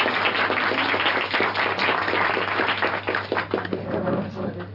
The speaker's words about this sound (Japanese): 皆さん拍手をお願いします。